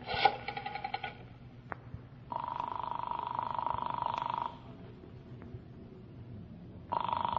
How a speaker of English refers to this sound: I'm going to phone Councilman Marcy again